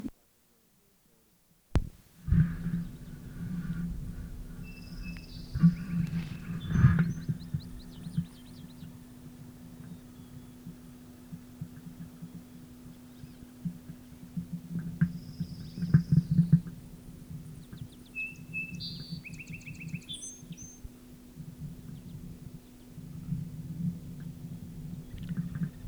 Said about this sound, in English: Calls by male rufous, probably passing hummingbirds.